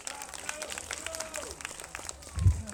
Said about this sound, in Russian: Слабо хлопаем как-то мы нашим гостям, друзья.